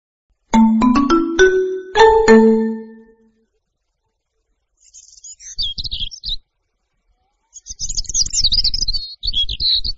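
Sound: birds singing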